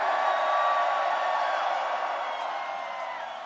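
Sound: concert crowd screaming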